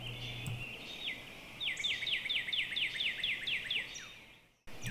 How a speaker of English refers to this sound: it's really fairly quiet except for the birds.